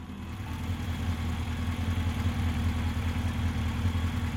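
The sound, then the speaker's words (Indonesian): A motorcycle engine, just started, idles steadily, a continuous low rumble with a faint rhythmic pulse, holding at a constant level with no voices. “Kakak ipar menyalakan mesin sepeda motor.”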